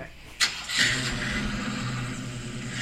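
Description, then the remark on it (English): A car engine cranks with a sharp click and whine, then catches and settles into a steady, rumbling idle. “Oh, you got a car.”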